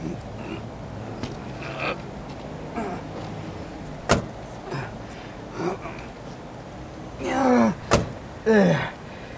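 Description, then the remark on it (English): The back doors of a fully loaded van being forced shut: two sharp, loud slams a few seconds apart, with rattling, scraping and creaking in between, over a low steady background rumble. “If I can get these blooming doors closed.”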